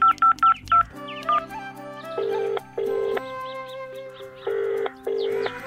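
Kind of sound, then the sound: signal or alarm, telephone keypad dialing tones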